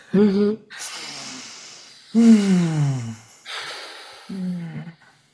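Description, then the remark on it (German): Three slow, deep breaths taken during a short pause in a conversation, each opening with a voiced, sighing tone that trails into a long airy exhale, with brief quiet gaps between them and no talking. “Lass uns da mal kurz, nicht verstummen, aber kurz atmen.”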